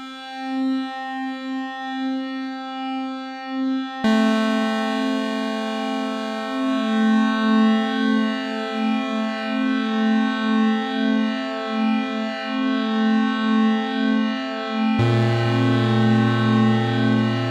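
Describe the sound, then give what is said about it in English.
A simple synth pulse sent into an effects module with its hold button clicked while playing, the sustained note thickening into a dense, siren-like drone with shifting overtones, then dropping to a lower, buzzier layer near the end. No talking. “So that's kind of sending a really simple synth pulse into it and then just clicking the hold button while it's going.”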